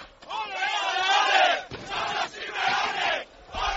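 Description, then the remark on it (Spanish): A crowd of Atlético de Madrid fans celebrating at Neptuno sings together loudly to Cholo Simeone, a dense mass of voices in rising and falling chant-like phrases, with brief dips between lines. “Está todo el mundo escuchando la COPE y me han quitado el micrófono porque quieren cantarle algo al Cholo.”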